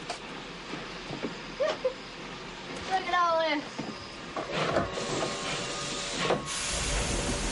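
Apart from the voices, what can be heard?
train running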